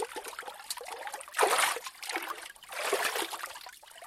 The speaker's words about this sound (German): Das Wasser ist eisig. Das ist Regenwasser. Du schaffst das schon. Dreimal musst du untertauchen.